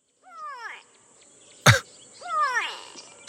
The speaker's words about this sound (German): Und zwar heißt er Grey Go-Away Bird oder auf Deutsch Graulärmvogel. Und der sagt sowas wie Go Away. Da hören wir mal rein.